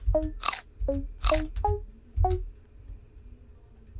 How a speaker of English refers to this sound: Not sure what it is, but this is what we have. Many of you may think this is a bird, but believe me, it is not. It's fucking squirrel.